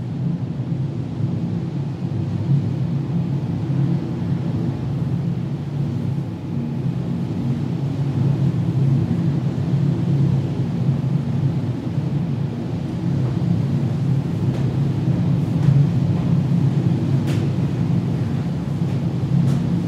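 Wind drones steadily around a lighthouse tower, a deep, continuous roar with faint whistling tones riding on top, unbroken for the whole stretch and with no voices.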